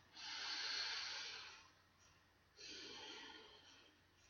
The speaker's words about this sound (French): Prenez une profonde respiration et répétez après moi.